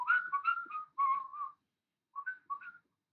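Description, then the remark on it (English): A person whistles a short run of wavering notes, pauses briefly, then adds a few more quick notes. The whistling is moderately loud, with no talking. “Whistle as in proper fingers in your mouth.”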